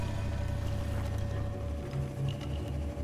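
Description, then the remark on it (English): A steady, heavy boat engine drone rumbles continuously with a low hum, mixed with broad rushing noise of water churning past the moving boat as it pulls away from a harbor. No voices are present. “Roaring engines and screams muffled into the wake, the harbor shrinks away.”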